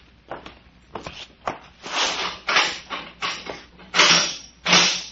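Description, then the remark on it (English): A few sharp metallic clicks and rattles, like a key working a lock, give way to a run of longer scraping, creaking bursts as a door is pulled open. No one speaks. “Here is the key to it. Unlock it.”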